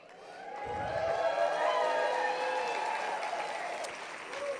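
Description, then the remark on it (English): An audience at an awards ceremony breaks into applause for an award recipient, a teacher of blind students, a dense, steady wash of many hands clapping that holds at a fairly even level for several seconds, with no voices standing out. “Just by hearing that applause,”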